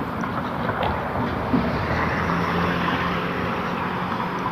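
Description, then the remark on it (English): A Staples delivery truck rumbles along the street with a steady, broad engine drone and low hum, holding a fairly even loudness throughout, with no voices. “Staples delivery truck.”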